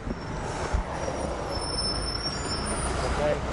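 The engine of a Highland Road city bus in Baton Rouge, Louisiana idles and rumbles steadily, with a high, thin whine running above it and a brief squeal of brakes near the end as it pulls up to its stop in front of the Baton Rouge Post.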